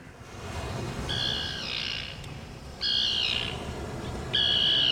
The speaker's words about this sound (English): Is that a seagull? No, it's a tern, like you asked for.